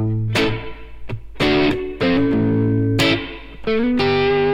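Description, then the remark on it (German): A loud, distorted electric guitar plays a handful of sharply struck chords that ring out between hits, with the reverb effect placed before the amp, its reverb muddied through the amp's distortion. No one speaks. “Der Hall ist jetzt gerade vor dem Amp.”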